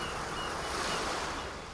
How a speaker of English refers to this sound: But it's worth mentioning the amazing diversity of sound on our planet. The sandy deserts. Lush forests. The sound of the ocean, both on the surface